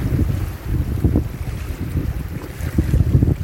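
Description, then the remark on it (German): Steady seaside ambience by the sea, dominated by blustery wind rumbling against the microphone, with a constant low roar of water and surf underneath, fairly loud and continuous with no talking. “Dafür kannst du, so wie ich hier jetzt am Meer, auch für dich einen ruhigen Platz suchen, den du gerne hast.”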